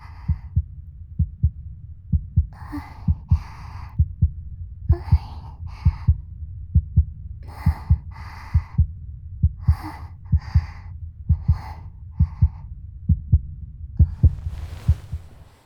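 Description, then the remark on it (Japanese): A steady heartbeat thumps close and low in a regular rhythm, with soft breathy sighs and faint vocal sounds drifting over it now and then. “私は心臓の音を聞いて落ち着くわけじゃないけどな。”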